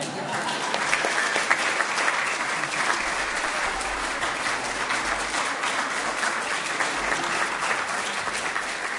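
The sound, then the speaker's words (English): An audience applauds steadily for several seconds, a dense, even wash of many hands clapping at a loud, constant level without pauses. “And at this time, I am declaring a group hug, and you can all clap for us.”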